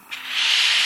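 A steady, breathy hiss of steam from steam blocking knitting swells in after a soft start and holds at an even level for the rest of the second, with no voices.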